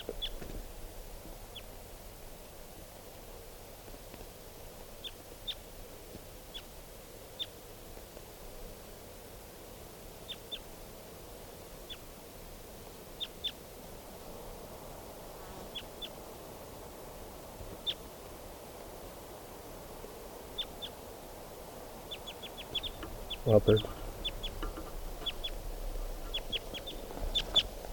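A wild bird calls as it flies across a clearing, with brief, high chirps scattered irregularly over a steady low rumble, then a louder, fuller burst of calling near the end. No one speaks.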